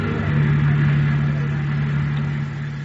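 A car engine idles steadily, a constant low rumbling hum that holds even for a few seconds without revving.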